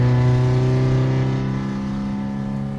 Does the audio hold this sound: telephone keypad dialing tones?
no